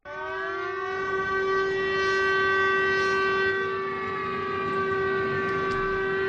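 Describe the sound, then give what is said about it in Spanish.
An air raid siren warning of bombing blares in one long, steady, loud tone at a constant pitch, rich and droning, sounding continuously for several seconds with no voices. “El sonido de las sirenas anunciaba los bombardeos.”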